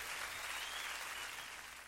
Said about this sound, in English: Yeah, applause, applause.